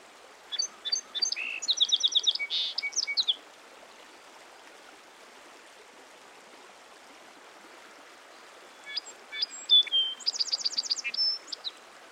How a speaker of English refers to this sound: There it is, the small brown streaked bird. My field guide says that when this sparrow flies, its tail works up and down. Let's hope we see it. The song sparrow actually has several different songs. Let's listen for them.